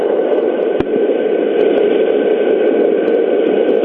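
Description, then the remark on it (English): A steady, rushing wash of tide noise, a sleep sound effect of the tide coming in played over a telephone, plays continuously with no clear swells, sounding thin and band-limited like white noise. A single brief click cuts in early on; no one speaks. “The sound of the tide coming in.”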